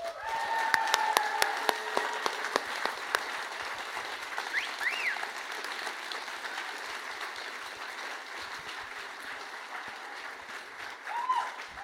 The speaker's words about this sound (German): Ich gebe euch jetzt Applaus. Ihr dürft gerne mit applaudieren, ihr dürft euch applaudieren.